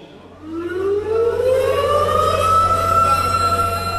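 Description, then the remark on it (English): An air raid siren during an August air raid drill in Seoul winds up from a low tone into a long, steady, loud wail, its rising pitch sweeping upward over a constant low rumble, with no voices present. “In August, air raid drills were held in Seoul.”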